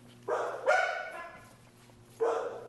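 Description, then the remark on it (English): Dogs at the Fayetteville Animal Shelter bark in three sharp, fairly loud bursts, two close together and one after a pause, each trailing off with an echoey ring. No one speaks. “One way Red Cross is spreading the word is through animal shelters, who encourage anyone adopting dogs, like these you hear at the Fayetteville Animal Shelter, to download the app for reference.”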